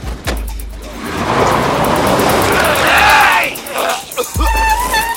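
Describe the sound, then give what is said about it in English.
A person gets into a car and its door thuds shut, then the engine revs up loudly and the car quickly drives off, its pitch climbing as it accelerates, followed by another heavy thump near the end. “gets into the car and quickly drives off.”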